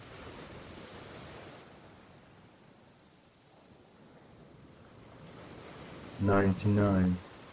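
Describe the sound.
Broad, steady ocean surf washes in and out, rising and falling in soft swells, with a brief burst of spoken voice near the end over the waves.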